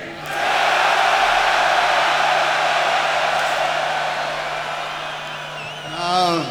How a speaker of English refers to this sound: So I'm gonna count to three, and then we would like everyone to make more noise than they've ever made before in their lives, okay? It should be fun. It's gonna be fun. So take a big breath. Here we go. One, two, three.